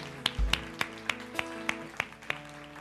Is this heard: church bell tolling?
no